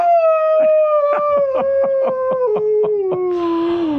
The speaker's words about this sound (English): Oh, boy. The wolf might howl a lot.